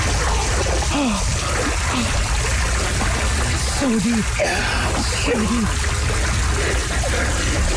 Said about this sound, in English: And we actually have some audio proof of that. But here's the thing. We had to be as quiet as we could because we were like in a residential area. So we have proof of the splashing.